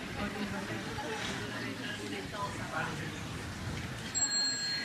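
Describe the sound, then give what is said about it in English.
A single clear, high chime of a small bell rings out near the end and lingers, following several seconds of quiet murmur and soft background voices; the bell is sounded as a cue for the children to turn around and look at the Sangha. “When you hear the next sound of the small bell, you turn around to look at the Sangha.”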